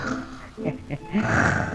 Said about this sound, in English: Grandma's kind of had too much for dinner. She's just half asleep. Oh, no, by George, she's sound asleep and snoring.